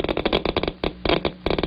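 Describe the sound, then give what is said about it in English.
A Geiger counter clicks rapidly and irregularly as alpha particles from polonium-210 strike its probe, with sharp dry ticks bunching into quick clusters separated by brief pauses, fairly loud with no voices. “Each burst of current makes a clicking sound come from the speaker.”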